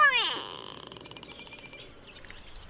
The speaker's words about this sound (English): The gray go-away bird of southern Africa is smoky gray with a tall, wispy crest. Favoring open woodlands and thorn savanna, gray go-away birds are known for their loud and nasal calls, often alerting other birds that there's a photographer nearby.